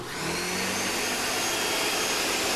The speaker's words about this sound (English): So, you know, frozen fruit, I get that out, I get the yogurt out, I get the orange juice out. Start out with some orange juice. I throw all this stuff in the blender, I get that thing rolling.